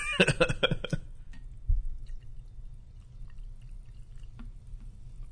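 A liquid is poured into a glass in a short, bright splashing burst lasting about a second, then fades into a quiet, low background hiss with a faint drip near the end.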